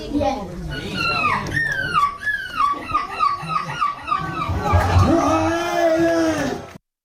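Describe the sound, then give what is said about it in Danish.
A 9-year-old boy dressed as a seagull imitates a hungry seagull in a seagull-screeching contest: a quick series of shrill, falling cries in a steady rhythm, then a longer wavering wail, over a low crowd murmur. “Blandt andet kunne han også efterligne den sultne måges skønsang.”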